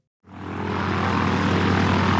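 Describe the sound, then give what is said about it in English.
A propeller airplane rigged with a loudspeaker drones steadily in flight, its engine starting abruptly after a brief silence and holding a loud, continuous low hum with a broad rushing roar above it. “Why are we on this airplane?”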